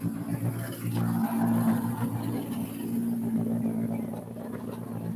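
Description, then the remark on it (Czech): A rally car at Rally Bohemia comes out of the corner after the flying finish toward the stop control where times are recorded, its engine droning steadily with a low rumbling pitch and slight revving swells as it approaches, with no voices over it. “A i tohle auto už se nám noří ze zatáčky od toho letmého cíle.”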